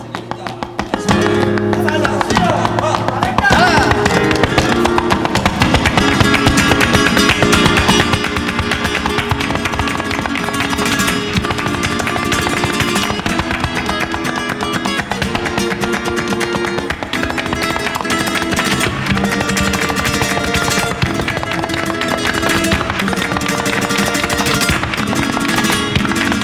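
Rapid, sharp flamenco heel taps (taconeo) by a bailaora rattle in dense rhythmic bursts over steady guitar-like music, staying loud and driving for the whole stretch with no talking.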